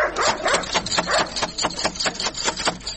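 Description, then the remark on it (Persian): A dangerous dog at the gate of a house barks repeatedly in quick, rough bursts, fairly loud, with a steady rapid rhythm and no talking over it. “اوهو، این چی سگ خطرناک داره که نخوریم ها؟”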